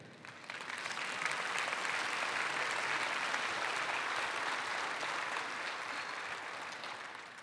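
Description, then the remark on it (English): A church audience breaks into sustained applause after a poem, a dense, steady patter of many hands clapping that swells quickly, holds evenly for several seconds, then tapers slightly at the end, with no voices. “You clap for a B-minus poem right there.”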